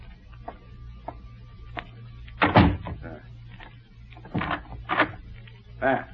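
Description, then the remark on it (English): A door swings shut with a solid thud, followed moments later by a few sharp metallic clicks and rattles as a lock is turned, all over a low steady hum. “I will close the door.”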